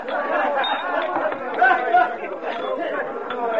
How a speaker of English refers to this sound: It was closing time, but the crowd was still clamoring for the drinks